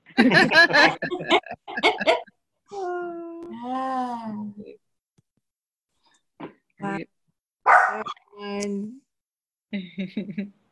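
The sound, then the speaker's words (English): A puppy barks in short, high yipping bursts, broken by a longer drawn-out whining cry and a few brief pauses before more yaps. “You're welcome, puppy.”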